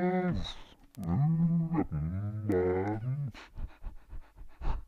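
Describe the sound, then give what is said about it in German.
Dog panting from a dog named Struppi: long, wavering whine-like vocal tones give way to a quick series of short, breathy pants that rise and fall in bursts, fairly loud and without any talk over them. “Irgendwas mit Hunden.”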